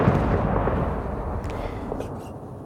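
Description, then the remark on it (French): A heavy, booming explosion in a war zone with a deep rumble that rolls on and slowly fades, loud, with a few faint higher sounds in the background. “Une explosion, des cris, des sirènes, et puis tout à coup, vous l'entendez, le chant des oiseaux.”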